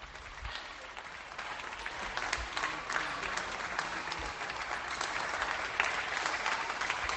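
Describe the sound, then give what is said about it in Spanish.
Sustained applause from many people in Galicia, Spain, for health workers: dense steady clapping from windows and balconies across a street, with no voices standing out. “En Galicia, contra el desánimo general, aplausos para nuestros héroes.”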